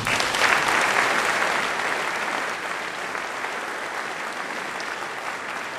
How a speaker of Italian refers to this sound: E anche a loro un forte applauso.